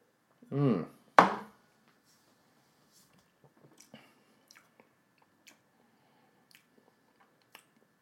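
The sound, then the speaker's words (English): A brief slurping sip of Yamazaki 12 whisky follows a short hummed murmur, then quiet lip smacks and small mouth clicks scattered through otherwise near silence. “Let's sip this bad boy.”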